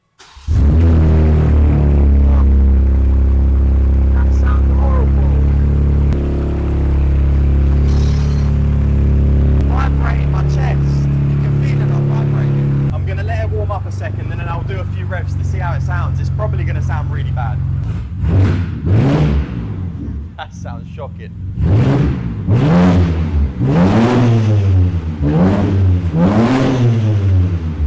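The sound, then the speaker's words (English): A loud, straight-piped BMW M4 (G82) running without an exhaust fires up and idles with a deep, droning rumble, then is blipped through a series of sharp, rising and falling revs. “To know what a G82 M4 sounds like without an exhaust, now you know.”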